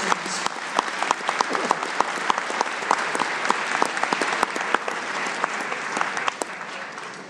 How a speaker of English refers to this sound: So before we announce the winner of the Michael McDonald Award, can you give a warm round of applause to all of our winners up here?